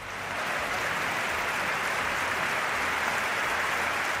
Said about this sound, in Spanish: En ese partido, San Mamés tributó una gran ovación a Chechu Rojo, el gran extremo bilbaíno recientemente fallecido.